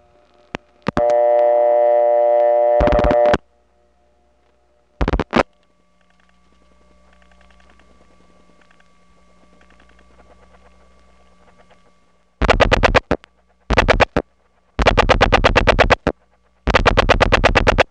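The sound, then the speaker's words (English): An analog telephone ringback tone on a call over a wire cable trunk to a supervision test line buzzes steadily for about two seconds over a quiet line, followed by faint hum and later several loud bursts of rapid clattering clicks. “This call is to the supervision test, and notice the pristine ringtone, something you don't hear nowadays.”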